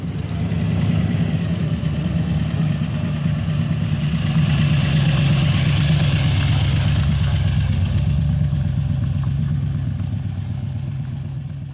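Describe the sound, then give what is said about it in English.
A muscle car engine rumbles steadily at idle, loud, with a throaty low-end pulse and a brief swell in revs midway before settling back to a lumpy idle. “get a bit of rumble happening.”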